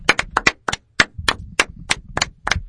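A brief burst of hand clapping: about a dozen sharp, crisp claps in an uneven rhythm, fairly loud and with no voices over them.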